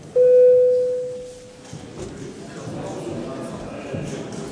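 A parliament voting bell, rung before a vote on a bill in its final reading, sounds as a single steady electronic tone, loud and held for about a second and a half before fading, followed by the low murmur and shuffling of many people.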